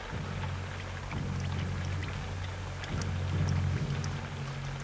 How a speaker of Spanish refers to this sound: Ha comenzado a llover y Mowgli se acerca al cuerpo inerte de Balú.